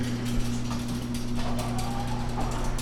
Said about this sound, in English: Yep. The garage door is opening.